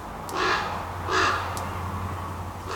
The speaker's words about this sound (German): Am Heidelhof werden auch Keas beforscht. Das sind neuseeländische Papageien. Und die hören sich so an.